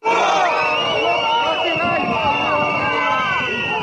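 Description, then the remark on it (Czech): Several hundred lawyers from Belgrade, Zaječar, Valjevo, Jagodina, Novi Sad, Niš and Ruma shout and chant together in a steady, loud roar, many voices overlapping in sustained calls with no pauses, on a protest march through central Belgrade streets on Tuesday, 1 June, against a draft civil procedure law. “Nekoliko stotina advokata iz Beograda, Zaječara, Valjeva, Jagodine, Novog Sada, Niša i Rume u protestnoj šetnji centralnim ulicama Beograda u utorak 1.”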